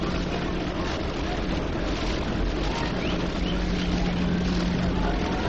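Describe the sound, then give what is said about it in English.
A subway train rumbles along behind the open bleachers beyond center field during a baseball game, a steady, loud roar that fills the whole stretch, with a low droning hum running underneath and a faint wash of crowd murmur. “Subway train goes rumbling along back of the open bleachers behind center field.”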